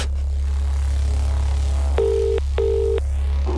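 A phone line rings out with a double burst of ringback tone, two short electronic pulses in quick succession, heard over a steady low hum with no voices.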